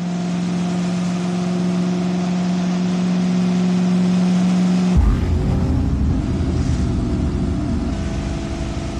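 The V16 engine of a torpedo-shaped, enclosed, streamlined Audi Luca racing car idles with a steady low drone, then abruptly revs up into a loud, rough roar that holds for several seconds.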